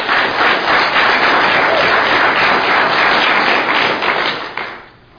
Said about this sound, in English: We want to thank Commissioner Ogden and the staff of the Fitz County AOG helping to host us. Let's give them a round of applause today.